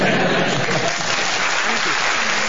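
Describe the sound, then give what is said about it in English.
Steady applause from delegates at the Conservative Party conference clapping on cue when a speaker pauses, a dense, even patter of many hands clapping at once, fairly loud with no gaps or pauses. “Some of the delegates are actually managing simple clapping now, and but all the speakers at the Tory conference have to tell them when to clap, because there is a cadence in the voice, and you will clap when I pause.”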